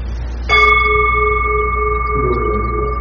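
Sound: temple bell being struck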